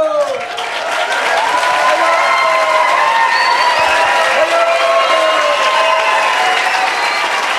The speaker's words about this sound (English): You can all cheer for her.